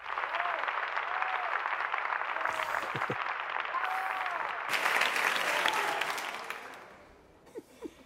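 An audience applauds steadily for several seconds, a dense wash of clapping with a few cheers, swelling briefly before fading out into scattered final claps.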